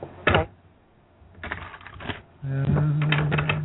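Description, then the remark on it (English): Playing cards being shuffled: several quick, crackling riffle bursts separated by short pauses, the last stretch joined by a steady low hum. “I'm going to sit here and shuffle these until you tell me to stop shuffling.”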